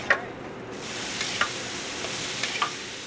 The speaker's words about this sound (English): The burgers sizzle while Michael scoops the meat juices back onto the 3 that are cooking.